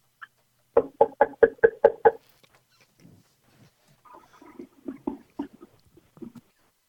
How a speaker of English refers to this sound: Let me ring the bell.